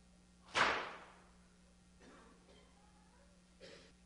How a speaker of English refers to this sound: What are the sounds that we're hearing? Are you hearing crowds shouting Hosanna? Are you hearing whips cracking on the back of the Savior?